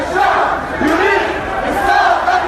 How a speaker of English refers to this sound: When visiting French President Emmanuel Macron toured the streets of Jumeisa, he was mobbed by a crowd chanting, "The people demand the end of the regime."